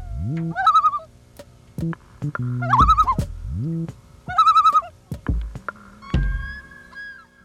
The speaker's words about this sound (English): Loon. A group of aquatic birds found in many parts of North America and northern Eurasia.